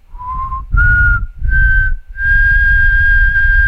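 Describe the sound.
A person whistles a slow, eerie tune alone, steady rising notes in four drawn-out phrases, the last held long and clear, with faint breathy noise beneath and no talking.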